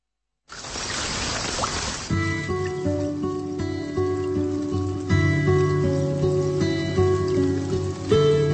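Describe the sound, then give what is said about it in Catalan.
Water pours or runs steadily with a bright, hissing splash, heard alone for a moment before music with sustained tones comes in and plays over the rest. “Què és això? Aquesta és l'aigua que va apagar el foc que va cremar el pal”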